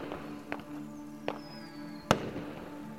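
Fireworks explode in the sky at a celebration in three sharp bangs at uneven intervals, the last one loudest, with a thin whistling streak in between and a low crowd-like rumble underneath.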